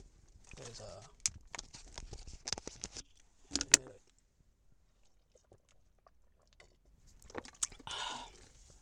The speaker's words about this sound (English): All right, hang on one second. Let me just go ahead and get a drink really quick.